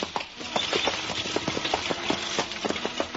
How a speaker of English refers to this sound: Sid Kenyon flicks the reins across the backs of his horses, and the wagon rolls ahead, quickly disappearing into the darkness.